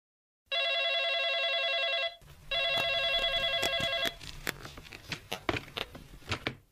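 A telephone rings loudly in two long bursts of a bright, buzzy electronic trill, signalling a call from a father, followed by scattered clicks and rustling clatter as if the handset is being picked up.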